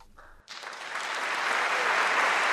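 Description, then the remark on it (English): After a brief quiet moment, an audience, including Holocaust survivors, bursts into applause after a musical performance, swelling into a dense, steady wash of clapping that grows louder and fuller to the end. “After all the applause, violinist Austin Glass says that this kind of all hit him just as they were about to play.”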